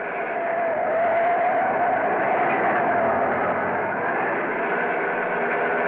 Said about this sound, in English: Look at the needle. 85. It's a car!